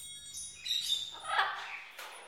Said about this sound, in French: Des oiseaux.